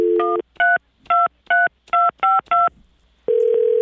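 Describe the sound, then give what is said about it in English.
A tone sounds, then a quick run of seven touch-tone beeps as a phone number is dialed to call back a man who has just hung up. Each short two-pitch chirp is evenly spaced, followed by a steady dial tone. No one speaks. “Hung up on us again. Let's call him back.”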